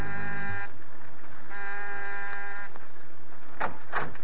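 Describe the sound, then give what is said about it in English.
An apartment doorbell, rung from the hall outside, buzzes twice, two steady, harsh, buzzing rings of about a second each with a short pause between, followed by a couple of brief muffled thumps. “Almost before he's out of sight, you're down the hall ringing the doorbell.”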